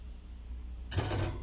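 A refrigerator door pulls open with an abrupt creaking, mechanical rush of noise that starts suddenly after a quiet hum and continues to the end, moderately loud, as something is put in the refrigerator.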